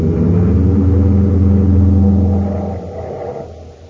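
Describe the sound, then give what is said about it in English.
A car engine roars loudly and steadily, its deep droning hum holding for a few seconds before it drops in pitch and fades away, as the car is driven toward a fuel tank. No voices are heard. “I'll follow as soon as I head the car right for that fuel tank.”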